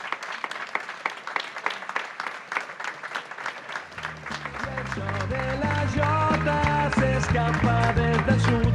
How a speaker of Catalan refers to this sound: Un aplaudiment per ells i elles.